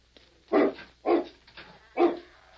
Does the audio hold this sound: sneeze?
no